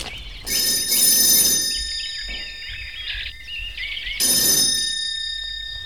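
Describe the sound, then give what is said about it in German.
A doorbell at the house of Miss Ergewem rings twice with a loud, harsh electric jangle, each burst lasting about a second, separated by a quieter stretch of thin, chirping high tones. “Na, ich klingel mal.”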